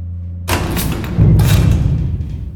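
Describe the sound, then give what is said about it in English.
A lift's low mechanical hum is broken by a heavy thud as it jolts to a stop at the top floor, followed by a deep rumbling resonance and fading rattles, fairly loud. “It stops at the top floor.”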